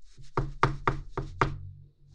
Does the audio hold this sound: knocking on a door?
yes